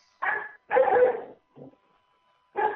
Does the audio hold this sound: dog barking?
yes